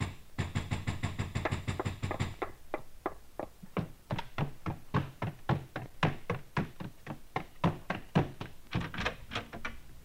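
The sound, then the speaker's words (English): Repeated knocking on a solid wooden street door at 4 in the morning, a quick flurry of raps followed by a long, steady series of sharp knocks, loud with no voices. “There came knocking on the street door.”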